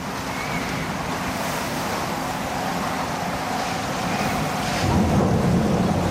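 A roaring storm with heavy waves crashing and surging continuously, a deep rumble of thunder-like noise swelling toward the end, and wind hissing throughout; no voices.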